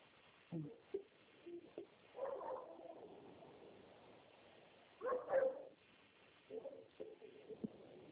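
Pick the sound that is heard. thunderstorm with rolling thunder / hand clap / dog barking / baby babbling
dog barking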